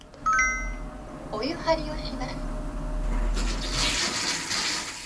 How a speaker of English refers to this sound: Each night, they share bath water. Their bathtub talks to them. It warns them when they're wasting energy.